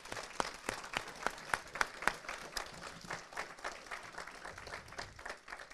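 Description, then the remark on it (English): A small group at a barbecue lunch in Texas on a spring day applauds to thank the man who cooked the barbecue, with a few sharp, loud claps standing out early before the clapping settles into a steady, softer patter of many hands for several seconds. “Let's give him a round of applause for that because it's really good, yeah.”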